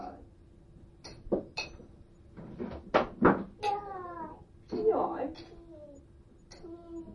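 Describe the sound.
A child's toy drum and a tape recorder topple over, the drum striking a bench: a few sharp knocking clatters and thumps in quick pairs, followed by a child babbling and an adult voice talking.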